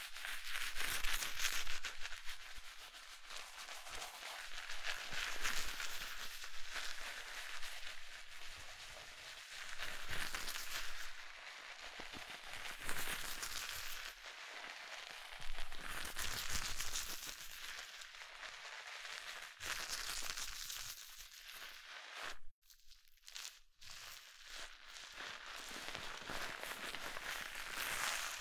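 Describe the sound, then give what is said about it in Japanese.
A dense, continuous fizzing crackle of carbonated foam, with countless tiny bubbles popping in a bright, hissy texture that swells and eases slightly over nearly half a minute, with no voices. “ほら、泡の音がよく聞こえますでしょ。”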